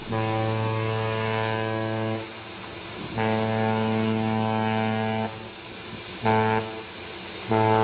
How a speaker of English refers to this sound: Can you describe what a ship's horn sounds like in port or up close? It must be deafening. It's really loud. It's strident, and it can be very deep-throated. And it can blot everything else out.